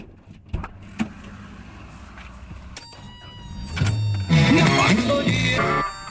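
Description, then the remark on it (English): A few sharp thumps and clunks of a car being loaded and its doors shutting, followed by a louder whirring motor sound, with no one talking. “Let's load the car and lock up.”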